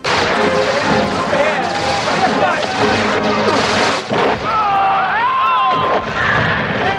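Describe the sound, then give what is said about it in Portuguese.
Loud, continuous booming and explosive rumble of a bomb exploding during a war scene in a film, and near the end a soldier's cartoonish wailing scream, the classic cartoon cliff-fall yell, slides downward in pitch, like a character plummeting away. “me explode uma bomba, um dos soldados do Bison me toma essa explosão e me solta o grito do Pateta e Donald quando cai do precipício”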